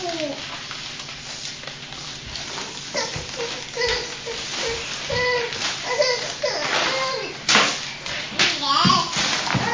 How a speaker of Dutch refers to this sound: Het kraakt wel het papier.